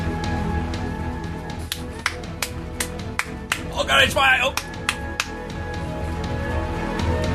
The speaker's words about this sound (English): Oh, okay, now they're clapping. More clapping.